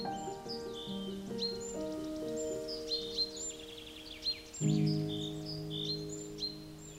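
Several birds chirp and trill almost continuously, short bright calls overlapping at moderate distance, while steady sustained low tones hum underneath throughout. No one speaks.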